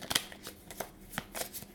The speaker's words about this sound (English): Kind of hard to shuffle when you only have like six cards in your hand.